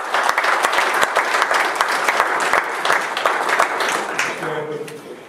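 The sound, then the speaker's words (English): An audience applauds the Lord steadily, a dense clatter of many hands clapping at an even loudness. Near the end the clapping thins and a faint tonal sound, like an instrument starting, emerges underneath. “May the Lord have applause.”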